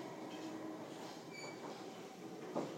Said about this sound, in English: And we're shortly arriving at Kew. District line train to Barking.